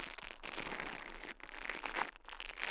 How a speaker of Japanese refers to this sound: ブラシ型の耳かきで、耳をマッサージしていきます。お耳の中で毛がパチパチと当たってくすぐったいですよね。